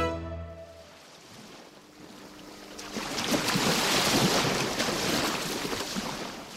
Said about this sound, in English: Waves from the Atlantic Ocean hit the coast of Ibino, a fishing village in southeast Nigeria.